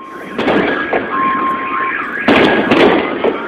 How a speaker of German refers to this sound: Überall heulten unter dem Krach der Detonationen auch die Alarmanlagen der herumstehenden Autos los.